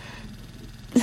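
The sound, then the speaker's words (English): A low, steady rumble runs through, then a dog makes one short, sharp noise at the very end, a brief yelp or bark with a low tonal edge. “it's my dog.”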